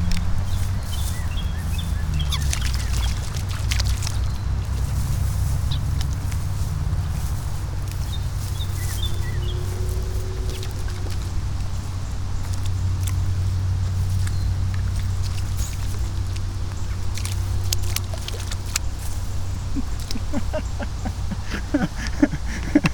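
Scattered quick plops and splashes, some in bursts, as a couple dozen frogs leap into pond water, set against a steady low outdoor rumble with faint high chirps now and then.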